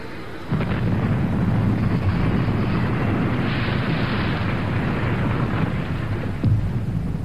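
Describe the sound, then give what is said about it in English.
A bomber plane with a crew of eight, carrying two thermonuclear weapons and losing fuel, crashing: a sudden, heavy roar bursts in after a brief pause and rolls on as a loud, sustained rumble, with a sharper jolt near the end. No voices. “The crew of 8 abandoned the bomber. 3 died. The plane crashed.”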